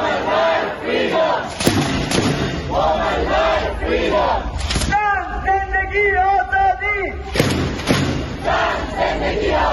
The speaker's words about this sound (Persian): حاضران علاوه بر پشتیبانی از زندانیان سیاسی از جمله عباس دریس، شعار نه به اعدام و زن زندگی آزادی را فریاد زدند.